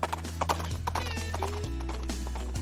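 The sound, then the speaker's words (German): A galloping horse sound effect played from a soundboard, its hooves clip-clopping in a quick, steady rhythm of sharp knocks, layered over a sustained low tonal drone that shifts pitch a couple of times. “Doch, es galoppiert.”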